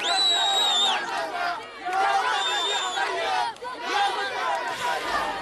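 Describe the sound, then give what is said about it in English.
A large crowd of Palestinians in the Gaza Strip cheers and shouts in celebration, waving Palestinian flags, with loud overlapping voices and high whoops rising in waves, sustained throughout at a steady loud level. “Celebrations have erupted across the Gaza Strip, where Palestinians have endured 15 months of war and destruction.”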